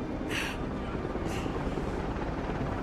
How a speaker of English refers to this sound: Martha and Aaron look up to see a vast silvery helicopter wheeling in overhead.